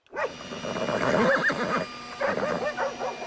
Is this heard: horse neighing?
yes